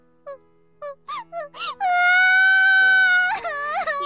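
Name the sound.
person crying and sobbing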